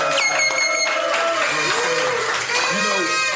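A crowd cheers and applauds loudly and steadily, dense clapping mixed with whoops, yells and high whistles rising and falling throughout.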